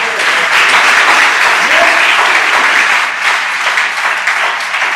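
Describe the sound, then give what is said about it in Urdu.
An audience claps for God during worship in a steady, loud burst of applause that fills the whole five seconds, dense and continuous with faint voices mixed in. “ہالیلویہ، تالیاں بجائیں خدا میں.”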